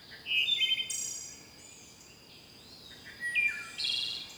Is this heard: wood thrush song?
yes